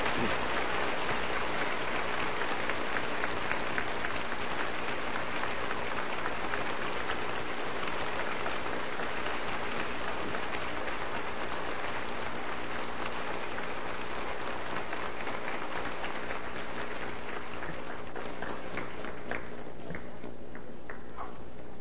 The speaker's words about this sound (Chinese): 我们今天以热烈的掌声感谢星空上人为我们精彩的开始，谢谢。